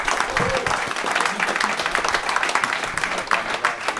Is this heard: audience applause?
yes